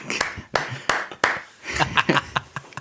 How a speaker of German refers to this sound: Klatschen. So einzeln.